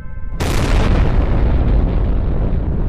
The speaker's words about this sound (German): Im darauffolgenden Jahr, Achtung, abrupter Themenwechsel, explodiert auf dem White Sands-Testgelände im US-Bundesstaat New Mexico die erste Atombombe.